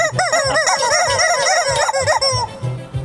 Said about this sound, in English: I don't want to hear a chicken anymore. The only chicken I want to hear is KFC.